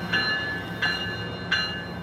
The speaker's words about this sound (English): Or is that a train? That's an Amtrak train. That sounds like a train. Yeah, that's an Amtrak.